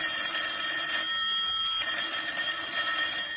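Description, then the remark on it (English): An old-style telephone bell rings loudly at the opening of a radio detective drama from November 30, 1948, a bright metallic jangle that sounds almost continuously with a brief dip partway through, and no voices. “And just like the Nero Wolf we just played, it will begin with the ringing of a phone.”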